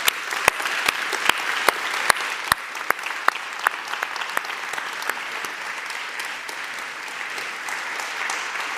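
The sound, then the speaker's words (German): An audience applauds for the people who work there day after day, a dense wash of clapping with a few sharp, louder claps standing out in the first few seconds before it settles into an even, sustained patter. “Aber ich glaube, wir geben den Leuten, die hier Tag für Tag arbeiten, einen fetten Applaus.”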